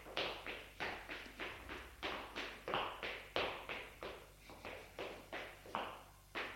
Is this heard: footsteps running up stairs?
yes